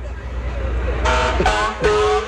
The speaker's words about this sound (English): They take good care of us, keep us safe and sound, and we love to hear the horns when they go by in the fourth. Kids love that, too.